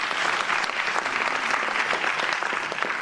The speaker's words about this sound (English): First and foremost, I think that we could applaud again the organizing team of this year's conference. So please applaud.